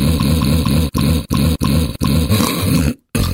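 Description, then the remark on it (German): Loud, harsh snoring with a deep, rattling rumble, broken into several short bursts by brief pauses and a sudden gap of silence near the end. No one speaks. “Das normale Schnarchen ist also nichts Ungewöhnliches und nichts Gefährliches.”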